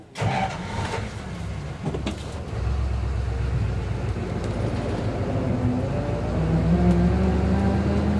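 A vintage car engine turns over and settles into a steady low rumble, growing slightly louder as the car pulls away and drives close by, with no one talking.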